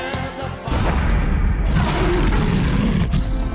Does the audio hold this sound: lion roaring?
yes